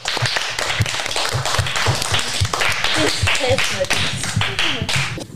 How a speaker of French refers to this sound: On peut l'applaudir.